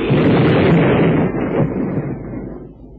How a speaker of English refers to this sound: Well, what a caper. His boat blew up.